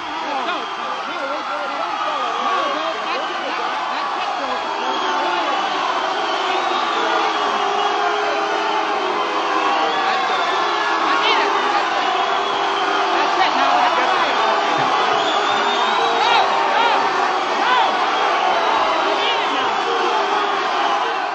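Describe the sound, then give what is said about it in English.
A large crowd at the 1956 Newport concert boos and shouts as George Ween tries at the mic to end the concert, a dense, continuous roar that stays loud and steady throughout, with scattered yells rising out of the mass of voices. “And here you are at the mic trying to end the concert as people start booing you.”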